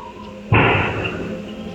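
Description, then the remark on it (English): A single gunshot at a kennel, captured on surveillance video, cracks out abruptly over a low, steady background hum, its sharp bang trailing into a lingering, noisy echo that slowly fades. “At 7:39 and 43 seconds, we hear a gunshot go off in the video.”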